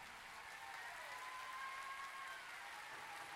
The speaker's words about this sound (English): Come on. Come on. Somebody clap them the other way. While you're clapping, leap for joy.